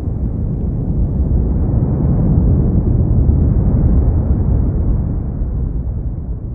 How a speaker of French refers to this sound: Ou encore d'un tremblement de terre avant un tsunami?